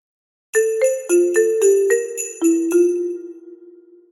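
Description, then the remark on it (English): Bright silver bells ring at Christmas, chiming out a quick run of about nine notes stepping mostly downward, each strike ringing with shimmering overtones before the last tone lingers and fades away alone. “While the fiddler plays and sweet silver bells ring, they sing songs about snow and the birth of a king.”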